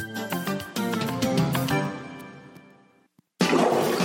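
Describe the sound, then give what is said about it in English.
A toilet flushes loudly as a car is flushed down it, in an advertisement for Cody and Sons Plumbing. A tonal, swirling whoosh fades over about three seconds, then a brief silence, then a sudden burst of rushing water as the toilet runs over. “Mommy, Jimmy flushed his car down the toilet, and now it's running over.”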